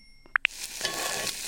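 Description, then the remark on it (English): A sizzle-style temperature alarm tone from a cooking thermometer app: two quick high beeps in close succession, then a steady crackling hiss like food frying in a pan that carries on to the end, fairly quiet and with no voices. “School sizzle.”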